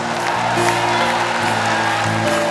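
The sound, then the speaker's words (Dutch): Audience applause and cheering for a man being introduced, steady and fairly loud, mixed with sustained musical tones from a band starting to play underneath. “Geef hem een groot applaus.”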